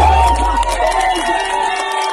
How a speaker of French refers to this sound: cette liesse que vous entendez, c'était la réaction hier soir sur l'Open Arms, des applaudissements, des accolades, lorsque la centaine de migrants a appris qu'après quasiment 3 semaines à bord du navire humanitaire, ça y est, ils allaient